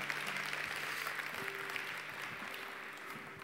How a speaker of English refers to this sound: So I do want us to praise the Lord and give a round of applause to the Lord for Pastor JT, Thank you, man. Thank you.